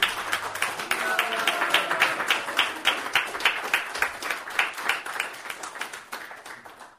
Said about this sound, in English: So I want to ask all of you to join your hands in a roaring applause